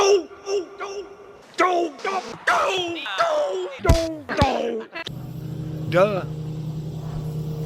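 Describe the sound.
A person talks for several seconds, then a steady, droning airplane engine takes over overhead: a low, continuous hum with a broad rushing wash, holding level until the end.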